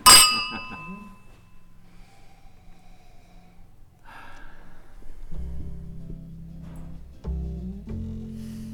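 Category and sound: household object, wine glasses clinking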